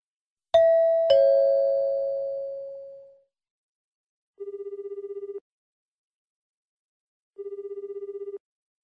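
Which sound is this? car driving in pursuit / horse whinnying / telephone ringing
telephone ringing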